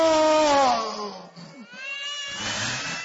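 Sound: baby crying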